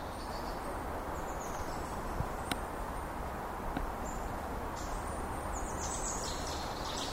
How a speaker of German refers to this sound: Ja, und hier stehe ich jetzt in einem kleinen mitteldeutschen Wald. Viele Bäume, ist noch schön grün, Ende des Sommers. Und hier mache ich jetzt einfach mal ein paar Naturaufnahmen, wenn ich nicht von Mücken aufgefressen werde.